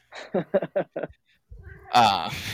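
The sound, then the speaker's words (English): A few quick, choppy vocal bursts, then a single drawn-out meow from a female cat in heat near the end, loud, with a rising and falling pitch. “That kitty is ready.”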